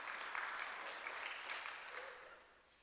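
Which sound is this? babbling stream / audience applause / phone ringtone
audience applause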